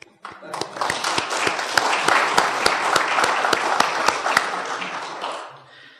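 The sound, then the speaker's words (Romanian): A crowd breaks into sustained applause, dense overlapping claps with some sharper individual claps standing out, holding steady for several seconds before tapering off at the end. “Și de aceea încă o dată aș vrea să vă mulțumesc, să vă aplaudăm.”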